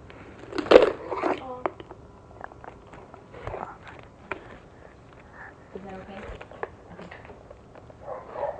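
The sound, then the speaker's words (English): A dog barks sharply once or twice near the start, followed by scattered softer noises and bits of voices talking quietly. “I think she heard the dog barking.”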